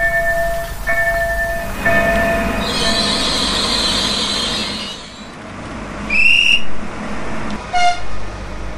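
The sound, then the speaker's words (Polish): A train pulls into a station platform and leaves again, rumbling along the rails with steady wheel noise, high metallic squeals and a couple of sharp screeching bursts toward the end, and no voices. “Pociąg przyjechał, pociąg odjechał, nikt do niego nie wsiadł, ani nikt z niego nie wysiadł.”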